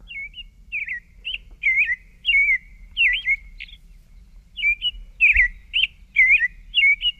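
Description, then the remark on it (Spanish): A European robin sings alone, a run of short, high, warbling phrases with brief pauses between them, clear, over a faint low rumble. “No nos trajo el sonido del chanchangorria, del petirrojo.”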